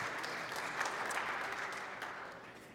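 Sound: audience applause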